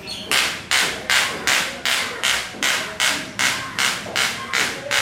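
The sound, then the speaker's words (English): A street vendor fluffing quilts, with a steady run of about eleven sharp, swishing strokes, each a bright rasping burst that fades quickly before the next. No voices. “Vendors walking down the street, selling and buying all manner of things from old gramophones to computers or fluffing quilts.”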